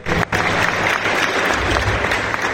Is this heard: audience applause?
yes